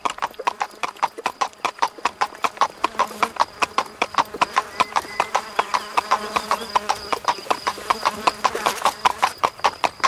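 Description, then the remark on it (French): Horse hooves clip-clop in a quick, steady rhythm on a hard surface, clear throughout, with a faint murmur of background noise beneath the hoofbeats. “La puanteur était si épaisse que le cheval fut pris de panique et prit le mort aux dents.”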